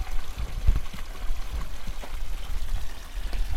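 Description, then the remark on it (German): Water splashes steadily from an old stone fountain at the edge of the village square in Lakushti, a continuous patter and gurgle with no voices, holding at a constant moderate level throughout. “Am Rande des Dorfplatzes von Lakushti plätschert ein alter steinerner Brunnen.”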